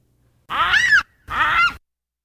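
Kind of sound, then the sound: animal, baboon scream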